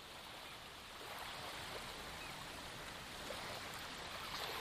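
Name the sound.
ocean waves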